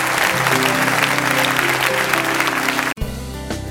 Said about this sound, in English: Give the Lord a mighty hand clap this morning and bless his name.